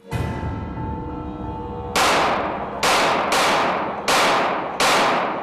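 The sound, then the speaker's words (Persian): A series of loud, sharp gunshots, five blasts in quick irregular succession, each with a broad crack and echoing decay, following a low rumbling background. No voices. “و اون مجل و مغازه و فقط مسئله شلی که گلوله را شنیدم.”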